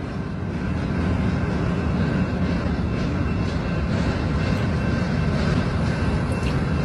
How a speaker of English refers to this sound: This is literally maybe a fourth of the train that's went by before I got here. This is a big train, and that is a lot of military equipment, folks.